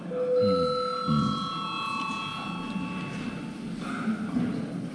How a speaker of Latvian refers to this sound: Mēs nobalsojam, lūdzu zvanu. Nobalsojam par to, lai ļautu deputātam Šlesera kungam 15 minūtes debates. Lūdzu zvanu, lūdzu balsošanas režīmu.